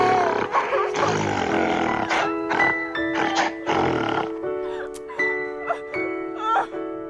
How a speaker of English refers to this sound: It actually doesn't sound like a dog. It sounds like a beast, like a wildebeest or something. Or a werewolf.